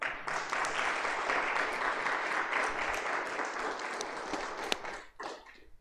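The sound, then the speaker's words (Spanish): An audience breaks into sustained applause for Jesus on an afternoon, a dense, steady wash of many hands clapping for about five seconds before tapering off abruptly near the end. “¿Le puede dar un aplauso a Jesús en esta tarde?”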